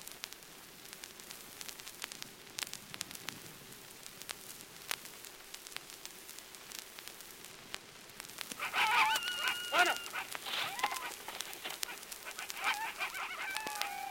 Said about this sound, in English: What are they? Wild dogs. The wolves of Africa. When they run together, they can pull down anything alive.